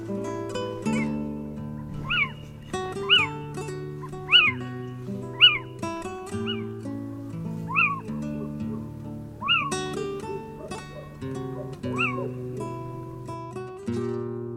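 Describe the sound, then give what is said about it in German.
A little owl calls repeatedly, about eight clear, rising-then-falling mewing notes spaced a second or two apart, heard over a soft, sustained musical background. “Das war der Steinkauz.”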